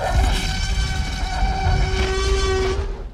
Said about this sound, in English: That was the T-Rex roar from the original Jurassic Park movie. It's a combination of a bunch of animals that we're going to tell you all about in a future episode.